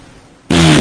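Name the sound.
fart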